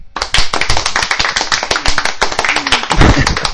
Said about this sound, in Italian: Bene, il pubblico applaude, il pubblico è composto da due persone, cioè è un pubblico folto.